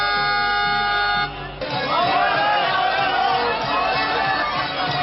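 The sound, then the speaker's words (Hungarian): A sustained train horn blares with steady tonal lines as the Csíksomlyó Express and Székely Gyors pilgrim trains arrive at Gyimesbükk, a former Hungarian border station, shortly after noon, then breaks off into a loud, dense crowd of several thousand cheering and chattering voices that carries on throughout. “A zarándokokat a több ezres ünneplő tömeg mellett a helyi előjárók köszöntötték.”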